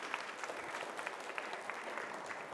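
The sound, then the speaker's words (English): A group claps steadily for helpers, a dense run of sharp overlapping hand claps at a moderate, even loudness that keeps going for a few seconds without any talking. “Guys, just give these guys a round of applause.”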